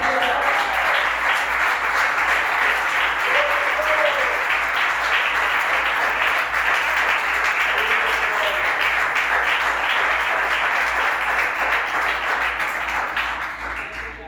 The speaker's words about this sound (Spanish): Denle un aplauso a Dios.